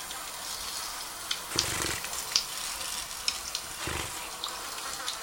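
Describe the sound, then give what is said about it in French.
Dragonflies laying eggs make a soft, rain-like patter: a steady hiss of tiny taps with a few sharper clicks and low thumps scattered through, fairly quiet with no voices. “Mais ce qu'on entend comme de la pluie, là, c'est la ponte ?”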